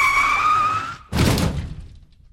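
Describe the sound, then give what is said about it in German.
A car's tires screech loudly under hard braking for about a second as an animal shoots out of the woods from the right, then cut off into a sudden heavy crash as the car hits it and the body is thrown onto the hood, quickly fading away. “Von rechts kam es aus dem Wald geschossen. Dann krachte es. Ein Körper wurde auf die Motorhaube geschleudert.”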